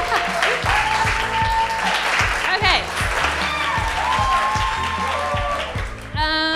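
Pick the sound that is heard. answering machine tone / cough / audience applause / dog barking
audience applause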